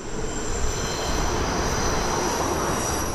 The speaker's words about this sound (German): Man hört es hier auf der Holzmarktstraße, da ist der Lärm von Autos, von Lkw und S-Bahn groß. Die gemessenen Lärmpegel waren gesundheitsgefährdend.